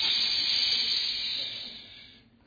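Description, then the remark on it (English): A steady, bright hiss of an aerosol spray can, loud at first and then tapering off as the burst fades out after about two seconds. “Then when we had enough hair to spray, you know that aerosol can just...”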